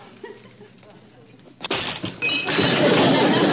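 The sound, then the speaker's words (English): A glass bottle holding dirt is clumsily broken after a stretch of faint murmuring voices: a sharp crack, then a loud, sustained crash of shattering glass with bright tinkling shards that runs to the end. “Well, all you gotta do is put the right dirt back in the right bottle.”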